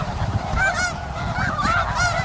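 A flock of geese in a wild place honks and squawks together in a dense, overlapping chorus, with sharp calls and sudden wing flaps rising repeatedly over a low, continuous rumble, loud throughout, heard in the frigid dark.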